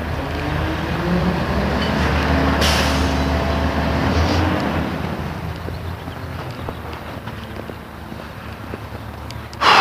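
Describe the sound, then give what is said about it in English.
A school bus idles with a low, steady engine rumble as a couple of sharp, airy air-brake hisses burst out, with light wind noise in the background, in cold weather. “Trash truck, school bus.”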